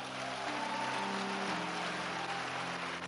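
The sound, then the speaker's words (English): An audience claps in a dense, steady wash of applause lasting about three seconds, with sustained low musical tones humming underneath and no voices. “Nobody is going to keep clapping for you indefinitely for nothing.”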